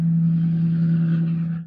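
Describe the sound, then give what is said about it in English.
A heavy truck engine drones loudly and steadily outside as the truck drives past, a deep low hum with rumbling texture that holds level before starting to fade at the end. “Yeah, f-ing truck guy.”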